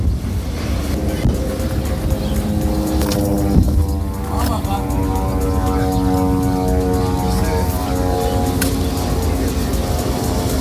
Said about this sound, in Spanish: ¿Quién ha lanzado esas bombas? ¿De quién eran esos aviones que escuchábamos? Del ejército de Israel.